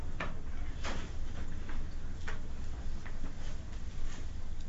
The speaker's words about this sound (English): My drip desk drawer, the wide desk drawer, you know. The one that will be under here.